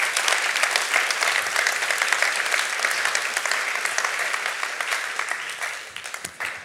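Sustained applause from an audience for a female singer singing for the first time, dense overlapping claps at steady loudness throughout, beginning to thin out slightly near the end, with no speech.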